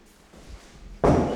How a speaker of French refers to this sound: Et vas-y, rentre. Fermer la porte.